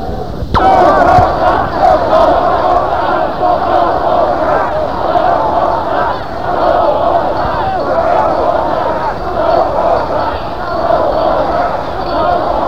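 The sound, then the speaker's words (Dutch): A large crowd screams and shouts nonstop, a dense, loud wall of high-pitched voices that stays steady for the whole stretch, with a brief sharp thud right at the start. “En gillen, hè.”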